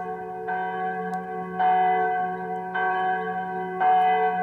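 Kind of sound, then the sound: signal or alarm, church bells ringing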